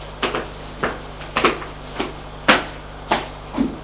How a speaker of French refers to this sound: Arrivée au rez-de-chaussée, elle va frapper à la porte du bureau de la directrice.